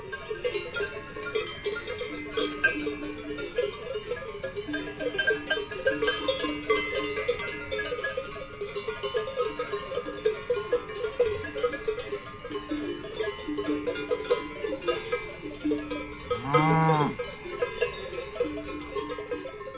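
A herd of cows on the Hof Rheinau farm moves about, many cowbells clanking continuously in an uneven metallic jangle, with one cow lowing briefly near the end. No one speaks.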